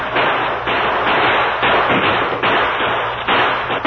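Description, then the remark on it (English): Loud rifle gunfire in repeated volleys as men at a stockade fire toward attacking Indians to hold them back, a fresh burst of shots crashing in roughly every second over a continuous roar of noise, with no voices. “Have the men fire toward them to keep them back.”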